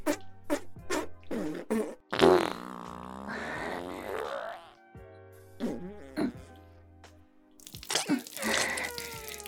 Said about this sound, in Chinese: 开始不停地放屁。